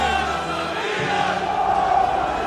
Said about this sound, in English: It's another AC Milan soccer victory in the books. Tens of thousands of fans pour out of the stadium and into the streets.